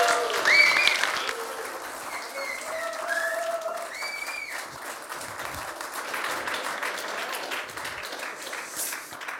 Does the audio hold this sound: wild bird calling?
no